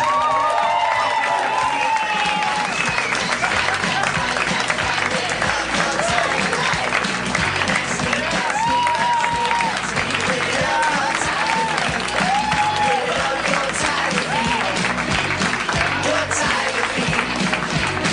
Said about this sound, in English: Please keep the emotions high and the hands clapping for the mayor of Harmontown, Mr. Dan Harmon.